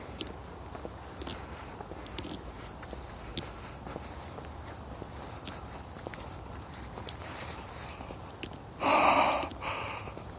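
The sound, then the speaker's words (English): Soft, steady footsteps crunch along over faint background noise, then near the end a single breathy yawn swells briefly and fades. “The yawning helps.”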